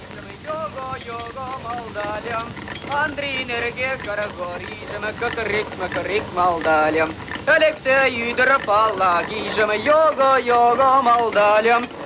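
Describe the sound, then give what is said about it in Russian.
In a Soviet film, the character Mustafa, played by poet Ivan Kyrlya, sings the national folk song "Oi, lui, modysh" solo while rowing a railway handcar, his voice fairly loud, with wavering, drawn-out notes over a faint, airy background hiss. “В официальной истории советского кино говорится, что исполнитель роли Мустафы, в будущем известный марийский, по другим источникам чувашский поэт Иван Кырля, исполнял национальную песню «Ой, луй, модыш, луй, модеш, ой, играет куница”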